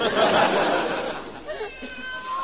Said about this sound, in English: Uh-oh, there's a kitty cat. I better get out of here. He might have a white strip down his back. Oh, it's worse than I thought. It's a black cat, and that's bad luck.